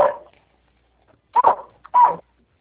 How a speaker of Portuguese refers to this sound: Pode falar, que eu não estou chegando direito, o cachorro está latindo, peraí, lá para dentro.